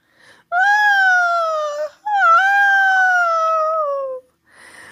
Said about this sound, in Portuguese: Sem nem sequer saber como se faz doce de goiaba, a menina foi para a janela e começou a chorar bem alto.